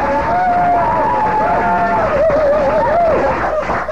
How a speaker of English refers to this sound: everybody else here, go ahead and clap, do what you want.